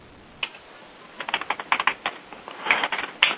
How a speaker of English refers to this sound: Excuse me, I'm typing rapidly here, trying to do Whois lookups.